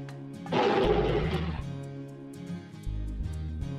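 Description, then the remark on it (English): A big lion gives one loud, rough roar lasting about a second. The roar is forceful, over a light musical background that carries on after it fades. “It's a lion! A big lion!”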